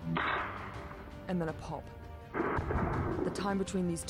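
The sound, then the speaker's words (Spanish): Two heavy gunshot booms roll out about two seconds apart, each a loud, lingering report, with indistinct voices talking over them; these are the shots that killed Abu Akleh, fired from between 117 and 197 meters away. “Y luego un tronido.”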